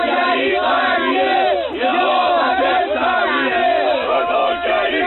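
A gathered crowd of demonstrators supporting population increase and defending the system's policies, shouting together in a dense, continuous roar of many voices with rising and falling cries, loud and sustained throughout with a brief dip partway through.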